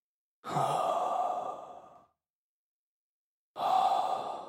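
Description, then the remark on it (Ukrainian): A voice imitates heavy breathing: one long, loud, sighing exhale, a pause of about a second and a half, then a second strong breath starting. No words are spoken. “Їжачок із ведмедиком лягли голова до голови і почали дихати.”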